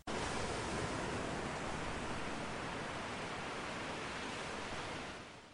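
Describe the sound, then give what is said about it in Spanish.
A steady, full roar of rushing, rising, dirty river water, fairly loud, holding constant for about five seconds before tapering off slightly at the end. No voices. “El río sigue subiendo y con él la tristeza de mi hermana.”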